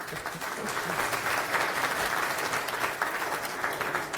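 An audience applauds as a speaker is welcomed to give a tech talk, a steady wash of many hands clapping at once, sustained and fairly loud throughout with no voices rising above it.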